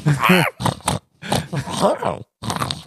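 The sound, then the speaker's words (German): Someone imitates a pig with a fairly loud series of nasal grunts and oinks, delivered in short bursts separated by brief pauses. “Ein Schwein kannst du noch einmal haben.”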